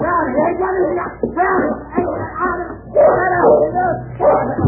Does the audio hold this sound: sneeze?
no